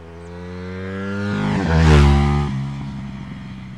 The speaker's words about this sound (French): On n'avait que des gros carburants 40 où là vraiment t'entendais respirer le moteur et tout. Tout est aseptisé avec l'injection maintenant.